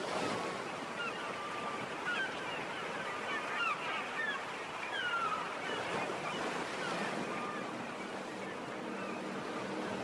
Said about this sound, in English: Let's hear the sea rolling up against the cliffs of Doneen